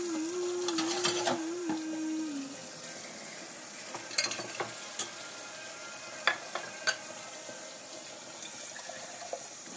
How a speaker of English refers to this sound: Doing the dishes actually now because the meat is still cooking and I'm done chopping up stuff.